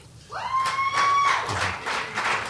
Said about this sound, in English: See, only about 10 people clapped on there, so that lets me know.